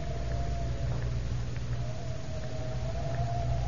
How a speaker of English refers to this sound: Gosh, it's cold out here on the lawn. Wind cuts through you like a knife.